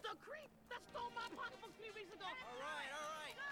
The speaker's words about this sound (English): Yeah! They're all cheering him.